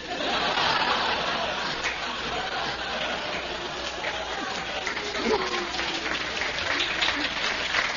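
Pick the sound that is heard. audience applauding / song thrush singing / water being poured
audience applauding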